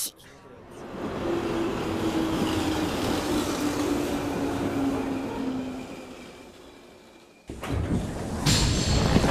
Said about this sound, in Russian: Безопасность пути подтверждена. Состав начинает движение. Будьте внимательны и осторожны.